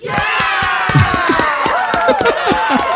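A burst of sharp, irregular hand claps over a noisy backdrop of several excited voices cheering and shouting.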